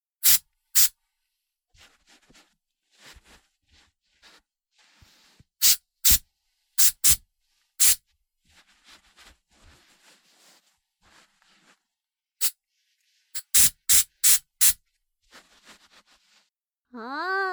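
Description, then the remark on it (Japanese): Short, sharp hisses of hair spray, used as the final step in styling someone's hair, come in quick bursts, often in pairs or runs of three or four, loud, with soft rustling between them and a brief hummed voice at the end. “じゃあ最後にヘアスプレーでスタイリングして、バッチリイケメンにしてあげる。はーい、スプレーいくよー。”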